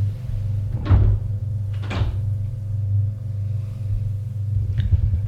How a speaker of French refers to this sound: Monsieur De Vos sonne à la porte d'entrée de la maison. La porte s'ouvre.